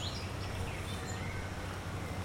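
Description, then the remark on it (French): Faint birdsong in a park, heard while walking: a few thin high chirps and trills scattered over a steady low outdoor hum, with no one talking. “C'est relaxant dans le parc.”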